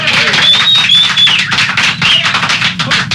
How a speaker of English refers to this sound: I love the sound of applause.